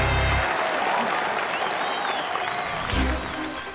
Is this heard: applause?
yes